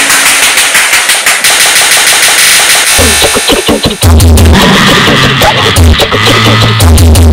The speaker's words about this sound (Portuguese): Os disparos podiam ser ouvidos da Avenida Edgar Romero.